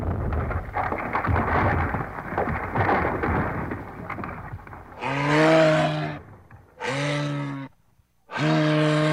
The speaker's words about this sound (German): Doch die Eiswände der Gletscher ziehen sich immer mehr zurück und große Eisstücke brechen von den Eisbergen ab. Denn durch den Klimawandel wird es auf der ganzen Welt immer wärmer und das zerstört auch Gletscher und Eisberge.